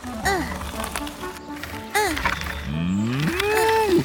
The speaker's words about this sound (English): Here are some cows. They're big cows.